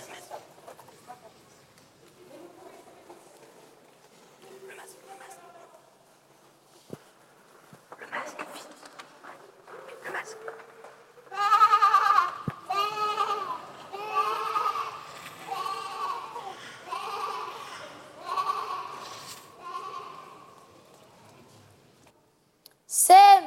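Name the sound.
sheep bleating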